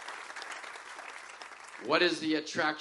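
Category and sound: crowd, audience clapping hands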